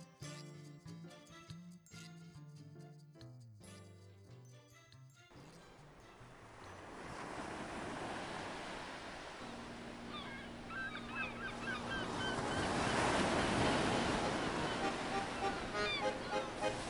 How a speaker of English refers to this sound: Ah, the sea. Ha ha, she's a lovely mistress.